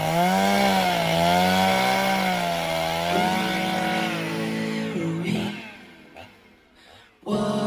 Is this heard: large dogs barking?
no